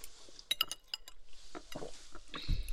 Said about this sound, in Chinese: 来，为了我们的友谊，干杯！虚假的友谊。